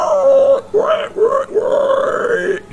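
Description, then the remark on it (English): A person imitates the grunt of a boar in chains and a spiked collar spotting approaching people: a loud, throaty, drawn-out snort broken into about four rough pulses over roughly three seconds, low and gravelly with a guttural, snarling edge. “And as you approach, the one of them spots and it goes...”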